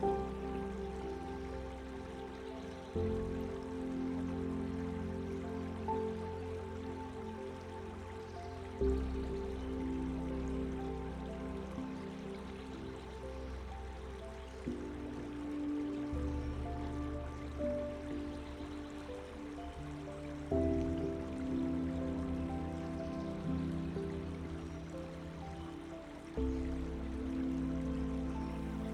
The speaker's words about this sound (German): Das Geräusch des Baches führt dich tiefer in einen Zustand der Entspannung.